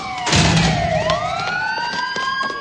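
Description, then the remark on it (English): Police car sirens wail together as police cars with flashing lights surround a construction site, their overlapping tones sliding down and rising again in long sweeps, loud and continuous, with a burst of rumbling noise near the start. “Lights flashing, police cars surround the construction site.”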